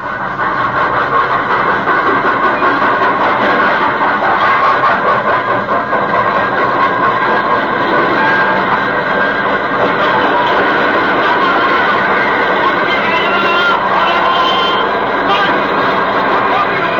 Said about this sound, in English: 19 years ago, a leave train was just coming to a halt in the station at Villefranche.